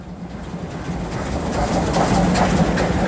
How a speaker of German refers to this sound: Es donnert ab und zu schon mal ein Zug vorbei an diesem Neubau des Weinguts Leitz, wo nicht nur eine Vinothek, sondern auch eine stattliche Kältehalle frisch entstanden ist.